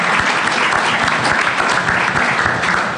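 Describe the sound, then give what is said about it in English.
Steady, continuous perfunctory clapping by a woman fills the whole stretch, fairly loud, with quick overlapping hand claps in an even, unenthusiastic rhythm and no voices. “is here clapping, and she's doing it so perfunctorily that it hardly counts.”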